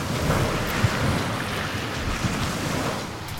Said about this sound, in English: Another wave's rolling in. It's coming over the top of the landing.